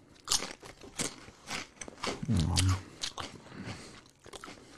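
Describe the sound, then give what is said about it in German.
Loud, crisp crunches as someone bites into a crunchy spicy snack, followed by several seconds of wet, crackly chewing with irregular bursts and a low rumble partway through. “Aber du isst auch wie ein Schwein.”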